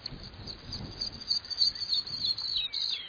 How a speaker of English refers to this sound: A pipit sings in clear and cloudy skies alike.